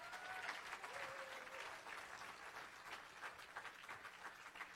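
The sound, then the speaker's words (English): Steady applause from an audience honoring a couple seated at the back fills the whole stretch, a dense, even patter of many hands clapping at moderate loudness, with a faint whistle-like tone briefly audible near the start. “He got a bigger applause than you did.”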